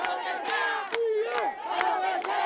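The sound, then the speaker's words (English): A large crowd of pro-government counter-protesters in Cuba chants and shouts in unison as they clash with the anti-government Ladies in White group, many voices overlapping in a loud, steady roar, punctuated by sharp rhythmic bursts and rising yells. “Also on cue, counter-protesters launched into pro-government chants as the two groups clashed.”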